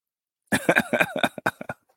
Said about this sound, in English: I'm going to mute you. Give yourself a good cough.